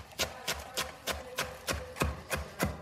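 A knife chops a tight bunch of fresh parsley on a cutting board, about nine crisp, even strikes in a regular rhythm, clear with faint background hum and no talking.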